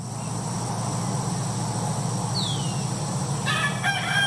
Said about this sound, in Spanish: Campo. Pajaritos acá. El clásico del campo.